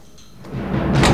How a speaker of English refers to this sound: The heavy safe door is pulled open.